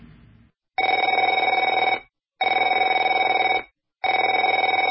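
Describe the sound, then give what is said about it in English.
A telephone rings in three long, buzzing bursts separated by short silences, each ring a steady trilling warble at a loud, even level with no talking over it. “Afraid to answer it?”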